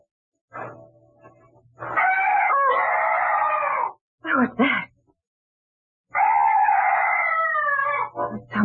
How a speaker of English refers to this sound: Some night bird. Yes, that's all. Such a weird sound. I've never heard anything like it before.